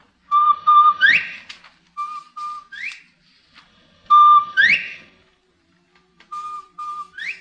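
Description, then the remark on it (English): A person whistles an imitation of a bobwhite quail call four times: each is a short steady note followed by a loud, sharply rising whistle, with pauses between and no talking. “I can call a Bob White right to my foot here.”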